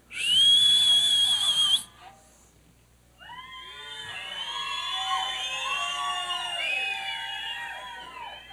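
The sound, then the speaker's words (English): A man aboard an old B-25 bomber in a bean field at midnight gives a loud, steady whistle holding one high pitch for nearly two seconds, then breaks off; after a short pause, a busy tangle of squeaky, warbling calls rises and keeps going to the end. “Then he whistled.”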